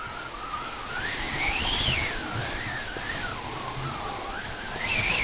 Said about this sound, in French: Donc, et en fait, non, en mettant le tissu, le frottement du tissu sur le bois va produire un son de vent, etc.